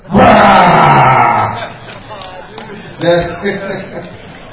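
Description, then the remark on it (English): A person imitates a tiger roaring like a lion, producing one loud, drawn-out growling cry that fades after about a second, followed by quieter rough vocal sounds and a brief second burst. “The tiger was roaring. But this tiger was a very, very amazing tiger. It roared like a lion.”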